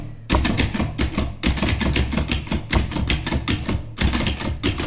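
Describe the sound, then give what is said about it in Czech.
Keys on a Perkins braille typewriter, with no paper inserted, being pressed in a quick, uneven series of sharp mechanical clunks, fairly loud, with brief pauses between bursts and no talking. “Možná by bylo zajímavé alespoň zvukově zprostředkovat tu práci na pichtově stroji.”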